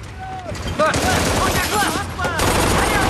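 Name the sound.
gunfire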